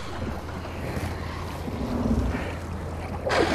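A kayak pushes off into Islayus Creek in southeast San Francisco, heading east: a steady wash of water and low wind rumble, with a louder burst of splashing near the end. No one speaks.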